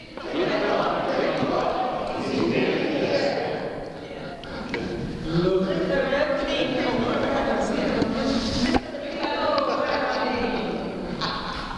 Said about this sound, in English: Here's the colt, the donkey walking down. So a bit more sound effects, please.